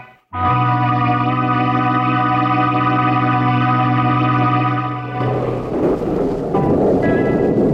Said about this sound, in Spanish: Mientras afuera, la tormenta se abate con toda violencia.